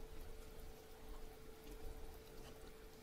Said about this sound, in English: Okay, I think we need to add a little bit of water on top. All right, let's go. This isn't hot water, it's just cold water. I think we gotta add a little bit just to jumpstart it. Yeah, see, it just gets absorbed.